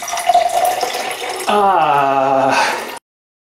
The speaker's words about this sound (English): We're going to drain this one out.